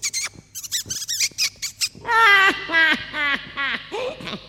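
A mouse squeaks: a quick patter of tiny high chirps, then a run of five or six longer, loud, wavering squeals, alone with no talking.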